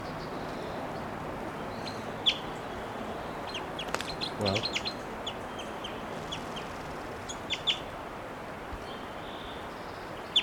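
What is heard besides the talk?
wild bird calling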